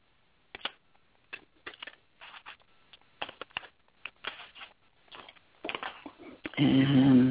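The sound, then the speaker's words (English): A deck of cards being shuffled in a quick series of crisp riffling bursts, ending with a louder, denser flurry as the deck is bridged together. “I'm gonna draw some cards and see what comes up. All right, let me know. I'm shuffling.”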